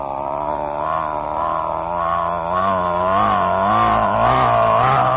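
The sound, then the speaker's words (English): A loud, steady airplane engine roar as a plane passes over a school, with a strong, droning harmonic tone that wavers slightly in pitch and grows louder toward the end. No voices. “It's getting louder and louder and louder until the entire room is filled with the sound of this fantastic, tremendous, overwhelming airplane roar.”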